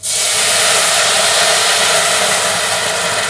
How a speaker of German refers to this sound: Jetzt kommt das, was alle Italiener machen, nämlich ein Schuss Weißwein in das Risotto. Das heißt, wir löschen diesen Risotto-Reis und die Zwiebeln mit einem Schuss Weißwein ab.